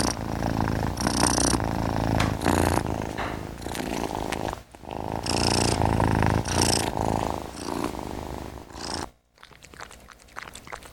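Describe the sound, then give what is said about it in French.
A cat purring in an apartment, a steady rumbling rhythm of breaths in and out, loud and continuous for several seconds with brief pauses, no voices over it. “Ah, il y en a un qui ronronne là.”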